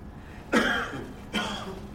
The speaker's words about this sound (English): Inside this first silence that we shared was suddenly a cough. A quiet cough, but a cough that revealed a large, rumbling voice.